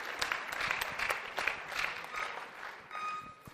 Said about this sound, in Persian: خیلی تشویق کنید دوستان منو.